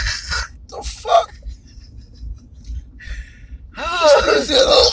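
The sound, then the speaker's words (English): Two short, muffled coughs from a person covering their face with a hand, separated by a brief pause, followed by a louder stretch of strained, voiced vocal sounds. “What do your eyes and nose and forehead got to do with you coughing?”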